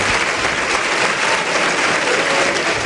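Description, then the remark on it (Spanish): A large crowd at a bullfight applauds steadily, a dense, continuous wash of clapping holding at a loud, even level throughout, with no voices standing out. “Bueno, ahí notan ustedes, sobran las palabras, el ritmo de los aplausos del público.”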